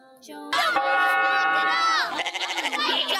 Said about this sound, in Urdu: یہ دیکھو بکروں کی لڑائی ہو رہی ہے.